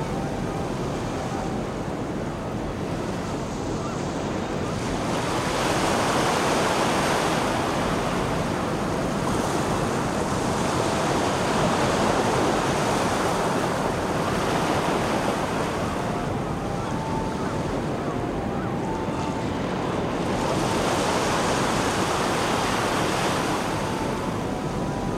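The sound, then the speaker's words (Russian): Continuous ocean surf rolls and breaks on a sandy beach, with waves swelling and crashing in slow, overlapping surges every few seconds, foam soaking into the sand before the next wave covers it, a steady loud wash of foamy water and light wind, no voices. “Кипящая пена впитывается в песок и, не успев исчезнуть, накрывается новой волной. Волна за волной.”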